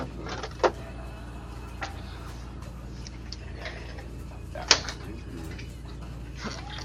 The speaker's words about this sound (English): Refrigerator is shut. Freezer is shut.